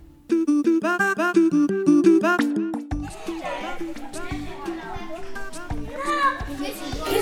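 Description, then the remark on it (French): Lively children's voices fill the air at a school, the école Jean Giraud, with high-pitched shouts and calls overlapping continuously as kids play together, loud and energetic throughout. “vous allez découvrir les enregistrements réalisés à l'école, avec des ambiances, d'alarmes, de cris d'enfants”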